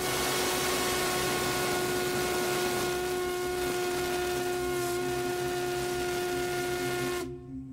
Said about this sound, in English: Now, this is the Crosby whistle from the 1870s and 80s.